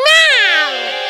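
An angry cat lets out a single loud, drawn-out yowl, its harsh meow sliding downward in pitch over about a second, with no other sounds around it.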